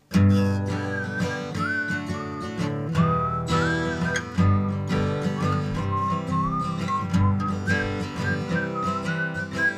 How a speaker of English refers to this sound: At the end, you repeat two choruses, and then I whistle.